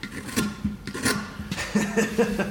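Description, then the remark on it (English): A knife scrapes and shaves across wood in a series of short, rasping strokes, fairly steady, with no voices, as Tlingit master carver Tommy Joseph shaves a block of wood into the shape of a dorsal fin with a reverse bent knife at a National Guard Armory. “He's slowly shaving a block of wood into the shape of a dorsal fin with an oddly shaped knife.”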